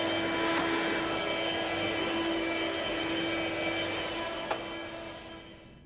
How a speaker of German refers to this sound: Das ist nur Mama mit dem Staubsauger. Sie saugt gerade den Teppichboden.